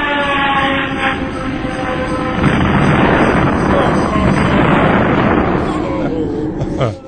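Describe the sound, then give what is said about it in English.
A loud, sustained crash of rumbling, roaring noise with metallic ringing tones, swelling after a couple of seconds and cutting off abruptly at the end: Santa's sleigh crashing in a parking lot. “Mike fondles the handgun in his pocket, getting ready for the right moment when Santa's sleigh crashes in the parking lot.”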